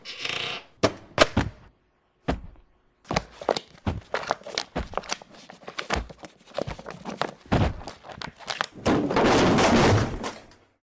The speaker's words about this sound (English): Did you just knock that shelf over? Nope. Did you? I didn't even touch it.